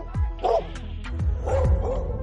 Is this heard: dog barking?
yes